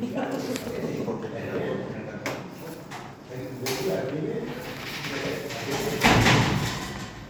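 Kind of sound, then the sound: household object, door being shut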